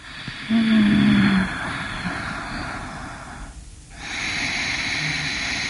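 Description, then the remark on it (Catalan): A person breathes in quick, shallow, stressed gasps, imitating hyperventilation as when stressed. Airy, noisy breaths run almost continuously, with one brief pause before resuming. “Hiperventilar, i a més la respiració, o sigui, estressat. És curta, no? Exacte, respires com curtet exacte. I ràpid, no?”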